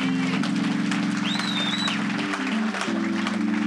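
An audience applauds in a dense, steady wash of clapping that lasts throughout, layered over sustained low keyboard chords that shift a few times, with a brief high whistle partway through.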